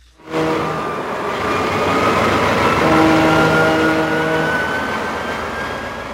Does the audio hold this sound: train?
yes